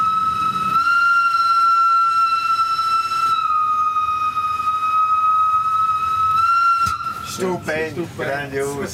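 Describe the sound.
A train whistle blows one long, steady, piercing note for about six seconds, loud, then cuts off as people begin talking. The train is exiting the nearly 6 km long Albula Tunnel at 100 km/h, travelling from Spinas.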